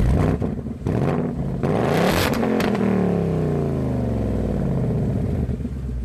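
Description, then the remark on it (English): The upgraded 5-liter V8 engine of a new Mustang Bullitt revs hard, loud, its pitch sweeping up and then falling away into a deep, rumbling idle. Nobody speaks. “The upgraded 5-liter V8 engine in the new Bullitt also produces its own really good soundtrack.”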